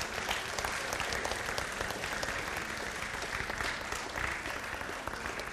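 A crowd applauds steadily for a group of people who came forward at a religious gathering, a dense wash of many hands clapping at an even loudness throughout, with no pauses or talking over it.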